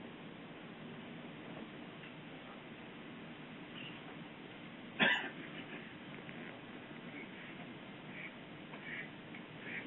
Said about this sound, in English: Wow, the duck is asking a question.